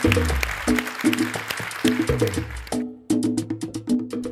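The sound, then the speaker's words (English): An audience applauds Bassem Youssef with dense, steady clapping that stays lively for the whole stretch, alongside low sustained musical tones underneath. No one speaks. “Give a huge round of applause to Bassem Youssef.”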